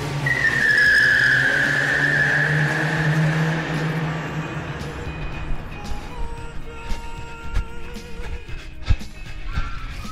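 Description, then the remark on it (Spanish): Car tires screech loudly for several seconds as a vehicle accelerates away, a sustained high squeal over a low engine roar that fades into rattling, clattering road noise. “Saltan los escalones que separan el bar de la calle y salen corriendo tras el coche que chilla a rueda al arrancar.”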